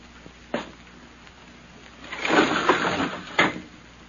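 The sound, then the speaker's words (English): A window is opened: a sharp click, then a rough wooden scraping slide lasting about a second, ending in a firm thump. Fairly loud, with no voices. “Anything else you want of me besides opening this window, Uncle?”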